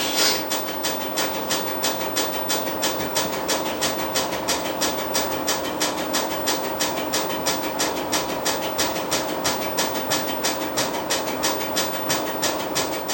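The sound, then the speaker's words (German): A tape cassette drive runs steadily, winding back and forth over an old cassette with a damaged block, a continuous mechanical whir with a fast, even ticking of about three to four clicks per second throughout, and no voices. “wenn er immer vor und zurück fährt, dann kriegt man oben auch die 12, das heißt, dann ist ein kaputter Block mit dabei.”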